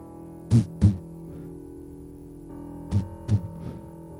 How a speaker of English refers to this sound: Then I heard a heartbeat.